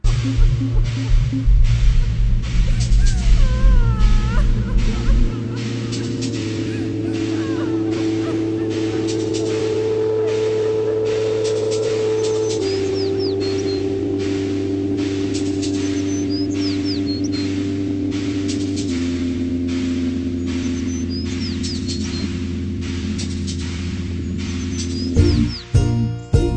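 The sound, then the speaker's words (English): The instrumental intro of the second track of a rock album: sustained, layered chords that shift every few seconds, with faint chirping high tones above, played steadily and fairly loud with no voices. “All right, let's play number two, ….”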